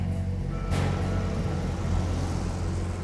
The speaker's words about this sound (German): Ich stehe auf der Mittelinsel an der Brandenburgischen Straße, dort, wo sie die Konstanzer Straße kreuzt. 4-spurig rasen Autos vorbei, je 2 vor und 2 hinter mir.